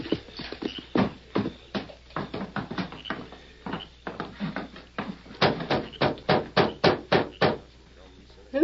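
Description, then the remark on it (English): A run of sharp, hollow knocks on the wooden door of Mrs. Purdy's farmhouse at night, made by the sheriff. The knocks are loud. Scattered raps come first, then a steady series of about eight firm, evenly spaced blows before it falls quiet. “Knocking at this time of night?”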